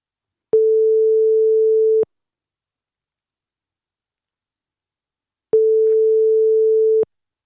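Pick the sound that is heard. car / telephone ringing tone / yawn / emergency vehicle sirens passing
telephone ringing tone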